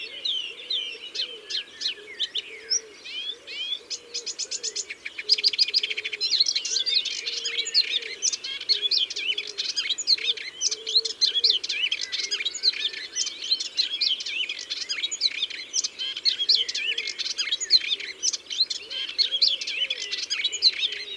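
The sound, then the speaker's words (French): A melodious warbler in a bush near a river, at 9 a.m. on 28 May, sings a fast, rambling stream of chirps, twitters and short repeated notes that seem to mimic other birds, continuous for about twenty seconds, over a faint low murmur. “28 mai, 9h du matin, nous sommes près d'une rivière et il y a une Hippolaïs polyglotte dans un buisson.”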